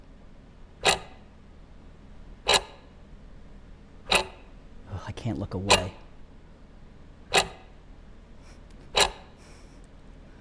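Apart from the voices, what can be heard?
clock ticking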